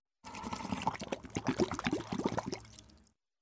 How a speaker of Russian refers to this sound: Схватила лисичка бутылку и прибежала к речке. Стала лисичка бутылку топить. Она булькает и тянет лисичку в воду.